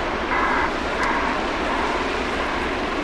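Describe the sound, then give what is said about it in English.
Loud, steady roar of big dump trucks and bulldozers hauling sand back and forth at a mine site, a dense engine rumble with grinding noise that continues without pause and no voices. “Big dump trucks and bulldozers are hauling sand back and forth, and it is pretty loud.”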